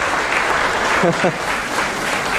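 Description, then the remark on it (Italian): An audience applauds loudly and steadily at the finale of a performance, a dense wash of clapping throughout, loud enough to drown out the piano, with a brief voice cutting through the middle. “Per poco col vostro applauso le facevate perdere il finale”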